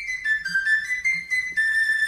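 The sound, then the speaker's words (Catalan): A high, bright flabiol plays a short solo melodic phrase, the counterpoint played near the end of a sardana before the last llarg, signalling that the sardana is ending. It moves through several sustained notes with quick ornamental shifts between them, loud and clear with no voices. “Doncs és el mateix instrument, el flabiol, que avisa que la sardana ja s'està acabant i fa aquest contrapunt que sona bastant semblant a l'introit.”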